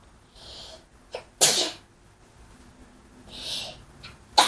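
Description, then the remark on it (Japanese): A loud sneeze bursts out after a hissing breath in, followed by more breathy hisses and a short sharp burst at the end. No one talks. “なんでこうくしゃみ出ちゃう？”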